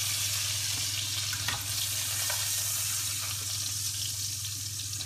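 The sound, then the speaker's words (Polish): Steady sizzling and crackling of bacon frying in a pan, a continuous hiss with small pops and no one talking. “Ten, co nie chce boczku, może smażyć bez boczku, ale ja kocham boczek.”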